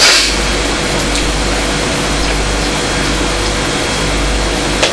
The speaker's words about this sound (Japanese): お、トラック。あ、とにかくは大型の車ばっかりですね。